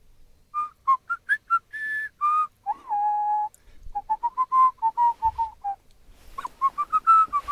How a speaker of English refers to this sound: Are you whistling? Oh, I suppose I am.